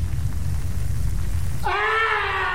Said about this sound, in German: Dramatischer Schrei, also da passiert dann doch noch ein Mord.